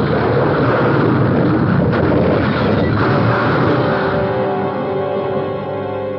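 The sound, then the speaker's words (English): A car skids, a tire bursts, and it slews toward the road edge, hits a rock and rolls over in a loud, continuous roar of crashing and tumbling, with sharp bangs around two and three seconds, easing into grinding, ringing tones. “a tire blew, and the car slewed, sliding toward the road edge. Then we hit a rock and went rolling.”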